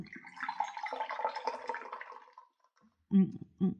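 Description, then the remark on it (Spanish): A spoon stirs steadily in a glass of water heavily sweetened with sugar that will not dissolve, for a couple of seconds, with swishing liquid and faint clinking, then stops before a short burst of voice near the end. “¿no te duele la mano de tanto mover esa cuchara? Sí, pero por más que le muevo, el azúcar no se disuelve.”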